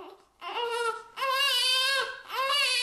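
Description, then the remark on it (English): A newborn baby in opioid withdrawal (neonatal abstinence syndrome) cries in three strained, high-pitched wails, each rising and breaking with brief gasps between them, from a YouTube video. No one speaks over the crying. “As the sound from this YouTube video graphically illustrates, newborns experience intense withdrawal symptoms, also called neonatal abstinence syndrome, or NAS, when their mothers have used opioids during pregnancy.”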